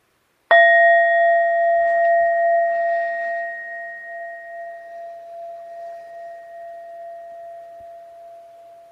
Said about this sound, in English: So I'll go ahead and ring the bell once and three times to come to a close.